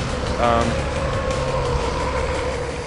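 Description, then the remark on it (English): The engine of a blue truck in a video game played on a laptop keyboard drones steadily throughout, a loud continuous rumble with a humming tonal whine on top, briefly overlapped by a voice near the start. “I'm that blue truck, which is the one that's driven by a crazy man.”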